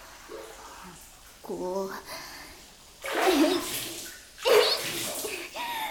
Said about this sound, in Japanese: こんな風に海で水かけ合ったりするのも王道だけど楽しいよな。やり返してきたし、お返し。